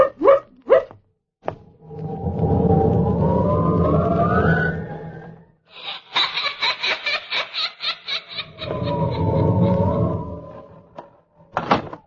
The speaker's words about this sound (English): That door again. Insidious feeling, doors opening and slamming.